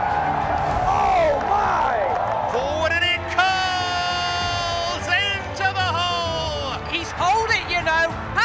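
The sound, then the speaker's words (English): At a Ryder Cup golf match, a golfer yells loudly "come on" with fist pumps after holing an eagle on the 16th hole to close the match, over a roaring crowd that cheers and whoops continuously, the shouts rising in strong, sustained bursts. “Yells, come on, a couple of fist pumps.”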